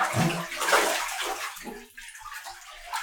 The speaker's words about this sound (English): Hold on. Let me get up out of the pool first.